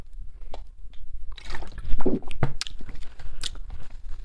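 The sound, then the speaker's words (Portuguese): Someone takes a drink of water: wet sips, a couple of swallowing gulps and small mouth clicks over a few seconds, with no talking. “Pá, deixa-me ver aqui. Água.”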